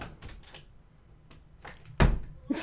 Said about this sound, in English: That door handle is really loose.